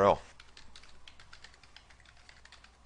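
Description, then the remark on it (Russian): Rapid, steady typing on a computer keyboard, a string of light plastic key clicks, following a brief louder sound at the very start. The typist is entering the link to a SharePoint sample site collection in Internet Explorer. “Давайте впишем ее.”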